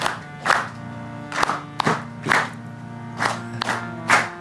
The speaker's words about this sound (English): Please join me with the clapping of the hand. Not too fast. Yes. Very good.